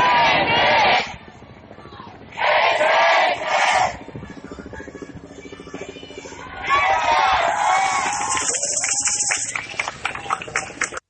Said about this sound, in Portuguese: De tempos em tempos, alguém gritava o nome de Marielle e de Anderson Gomes, o motorista que também morreu na emboscada. E as pessoas respondiam gritando a palavra presente.